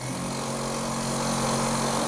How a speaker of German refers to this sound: Noch betritt man eine Baustelle. Überall wird geschraubt, gehämmert und gebohrt.